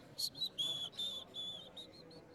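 person whistling a tune

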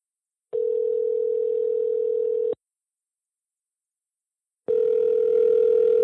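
telephone call ringing out

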